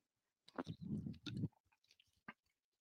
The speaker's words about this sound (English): And look, I'll get a sip of water, and then we'll get into LSU South Carolina.